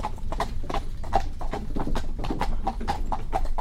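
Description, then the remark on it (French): Steady clip-clop of the hooves of a seven-year-old purebred Cob Normand mare, a brisk even rhythm of sharp knocks about three or four per second, clear over a low rumbling background with no talking. “Alors, comme je vous disais, elle a 7 ans, c'est une com normand, pure com normand, elle est géniale ce jument là.”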